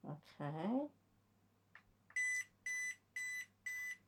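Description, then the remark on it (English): Four short, evenly spaced electronic beeps ring out from a battery pack when its single button is pressed with no device plugged in, showing a 100% charge; each is a bright steady tone, following a brief spoken phrase and a faint click. “So what you got is four beeps. That told me there's 100% battery in there.”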